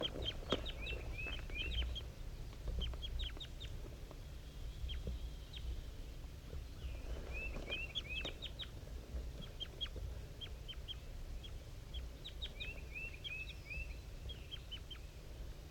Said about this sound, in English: It's 7:50 a.m. and 5-3 and the wild bird are communicating here. 5-3 is a little bit higher pitched and the wild bird is a little bit lower up in the top of the dead pine.